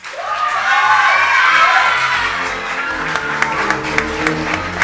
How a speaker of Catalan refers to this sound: Doncs aquests crits que sentíem no eren de la Falla la Font, sinó de la Falla Plaça i Natzaret, perquè quan aconseguiran el primer premi d'ofrena.